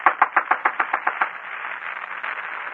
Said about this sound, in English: So we find Charlotte now knocking at the apartment door.